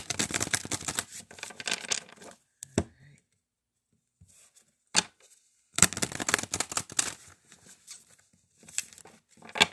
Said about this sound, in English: Really should give these cards a little shuffle here.